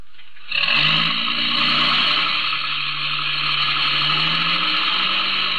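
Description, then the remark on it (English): A truck engine roars to life abruptly and holds a loud, steady, rumbling drone, its pitch creeping upward as the vehicle pulls away. It runs continuously with no voices. “Get in the truck.”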